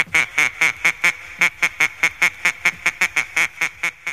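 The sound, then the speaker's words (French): Children make loud, duck-like quacking sounds that repeat in a quick, steady rhythm, around eighteen nasal quacks in a row, clear with no talking. “Les mains sur les hanches ou dans les poches, on entend les enfants faire des coin-coin-coin-coin retentissants.”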